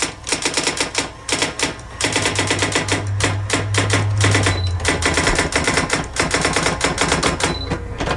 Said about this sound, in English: We're writing a book. Oh, there you go. A typewriter? It is. It is. Yay. A typewriter.